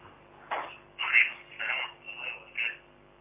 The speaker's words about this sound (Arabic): اخفض التلفاز واسمعني من الهاتف، الله يكرمك.